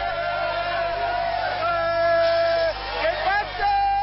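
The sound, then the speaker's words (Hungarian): A dense, loud street crowd in central Madrid, Spain, cheers and shouts continuously in celebration after a match, with long sustained car horn blasts rising above the din as drivers pass through the celebration. “A meccs lefújása után igazi spanyolos örömünnep kezdődött. A tömeg folyamatosan nőtt Madrid belvárosában.”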